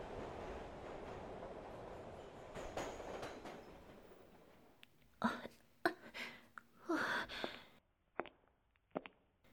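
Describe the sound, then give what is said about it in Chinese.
A subway train rumbles steadily along the rails, then gives way to a series of sharp clattering bursts and brief metallic squeals, fairly loud. “我记得附近好像是有一个地铁站，我还是坐地铁回家吧。”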